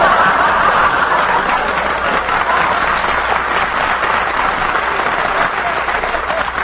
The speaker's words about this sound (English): I like him. He leads the applause. I like him.